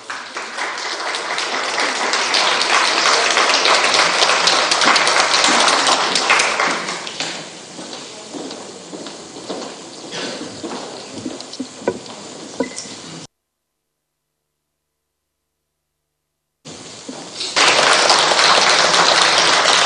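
Loud audience applause, dense and steady, fades to scattered clapping, cuts to a silent gap of several seconds, then returns as another full burst of applause.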